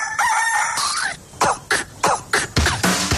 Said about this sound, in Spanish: Mañanas manda el gallo. Punto.